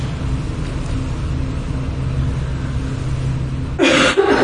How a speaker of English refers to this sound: There's a cough.